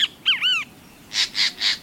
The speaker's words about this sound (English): A great kiskadee.